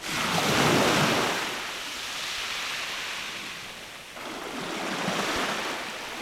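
Ocean waves break and wash onto the shore in broad, continuous surges, swelling and receding twice over a steady roar, with some wind rumble and no voices.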